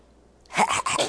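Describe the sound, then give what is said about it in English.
A short sneeze bursts out after a moment of quiet, breaking into two or three quick, breathy snorting pulses. “Bless you.”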